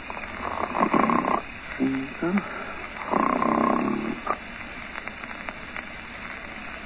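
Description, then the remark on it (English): Sleeping men snoring: two long, rasping snores about three seconds apart, with a single spoken word between them and softer breathing noise trailing off afterward. “Now the fat ones are asleep too, boys.”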